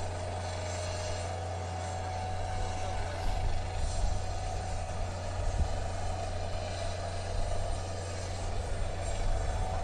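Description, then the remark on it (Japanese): A steady, loud mechanical drone with a strong low hum from a Kyoto City fire department aviation unit helicopter carrying medical supplies, landed on the deck of the escort ship Hyuga, continuing without a break. No one talks. “はい、医療物資を持った隊員の方がヘリコプターから降りてこられました。”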